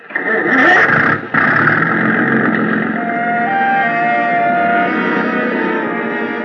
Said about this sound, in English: The big gas engine took over where the wind dropped us, and Captain Granger stood at his wheel, outfencing the submerged swords of coral with the slim prow of the Kittiwake.